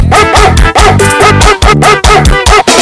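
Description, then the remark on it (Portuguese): A dog barks loudly, a rapid run of sharp, evenly spaced barks repeating in a steady rhythm with barely a pause between them. “Eu gostei desse cachorro, eu achei mais fácil no dedo desse cachorro.”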